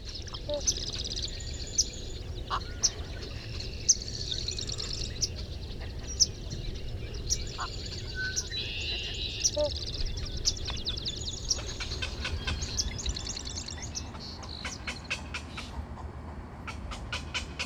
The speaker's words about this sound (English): This week, it's the black-crowned night heron. This stocky wading bird calls our region home year-round. You can spot them in wetland areas around dawn and dusk when they're most active.